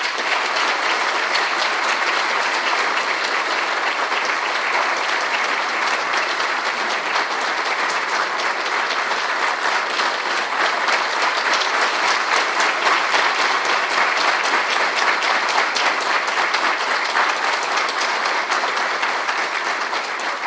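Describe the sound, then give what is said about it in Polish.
Sustained, dense applause from a large congress audience for the team that organised the congress, a steady wash of many hands clapping at an even loudness for about twenty seconds with no voices standing out. “Brawo dla nich.”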